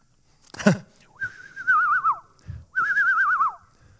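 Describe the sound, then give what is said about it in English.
A person whistles an imitation of a screech owl call: two sustained, wavering mid-pitched notes, each ending in a downward slide, preceded by a short breathy burst. The whistles are fairly loud and stand alone. “Sounded just like that owl.”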